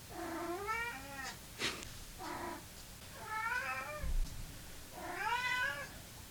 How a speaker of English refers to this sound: It is actually Callie's dinner time. So that's not even, like, induced meowing from her.